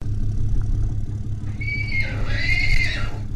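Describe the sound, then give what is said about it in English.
A horse trailer drives through the back gate of the BLM Boise Wild Horse Corrals south of the city on a very windy day, rumbling with a steady, low engine drone under gusty wind noise. Inside is Red Ryder, a 9-month-old weanling, and halfway through a horse lets out a long, wavering whinny. “A horse trailer drives through the back gate of the very windy BLM Boise Wild Horse Corrals south of the city.”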